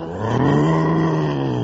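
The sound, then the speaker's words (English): A person growls out a long, loud imitation of a tiger's roar, a steady rumbling vocal sound held for over a second without words. “I'm a roaring tiger.”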